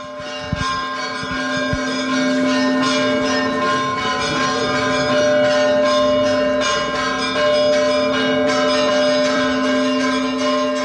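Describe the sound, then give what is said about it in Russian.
The church bells of the Svyatogorsky Monastery ring loudly and continuously, several bells layered into a dense, resonant peal with overlapping strikes and a sustained humming drone. No voices are heard. “Бориса Годунова будут ставить с колоколами Святогорского монастыря.”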